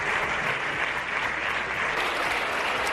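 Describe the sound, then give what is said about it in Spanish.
Sustained applause for Pablo Casado from the Partido Popular benches in parliament, a dense, steady wash of many hands clapping at once with no pauses, loud and even throughout, with no voices standing out. “Pues eran los aplausos que recibía Casado de la bancada popular”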